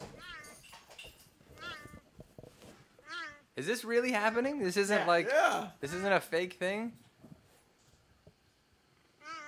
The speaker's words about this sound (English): We're going to cut straight to the cheetah meows, right? Well, I'm going to pull it up right now, and we're gonna listen to it. Here we go. Meowing cheetahs.